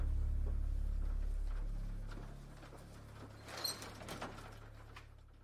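A door to the daycare at the Mega Pizzaplex opens and shuts with a short burst of clicks and clatter about midway, heard over a low, steady hum that fades early on.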